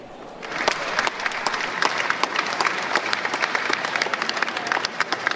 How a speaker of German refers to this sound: Viel Applaus hat es kurz nach den 4 für Esther Gassler von der FDP und den Peter Gomm von der SP gegeben. Die beiden sind klar im ersten Wahlgang wiedergewählt.